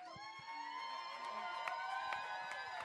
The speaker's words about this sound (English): Before we forget, we got to give a big, big, big, big round of applause